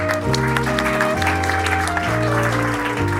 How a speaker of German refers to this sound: Na, also. Sehr gut. Applaus für den Teilnehmer.